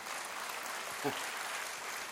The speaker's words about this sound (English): Well, I've been married to the same gal for 34 years. How about that? You can clap on that one.